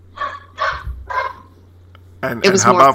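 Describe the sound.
A puppy gives three quick, yappy barks in a row in the background, and then a person starts talking as the barking stops.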